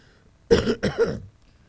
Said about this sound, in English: Excuse me. I mean to cough in the microphone.